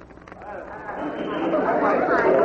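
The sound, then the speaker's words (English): A large crowd gathered at a scene makes a dense murmur of many voices chattering at once, a steady crowd babble that swells gradually louder over a couple of seconds, with no single voice standing out. “By the time Lieutenant Frank O'Rourke, head of the squad of detectives assigned to investigate the rumored hijackings, arrived on the scene, a large crowd had gathered.”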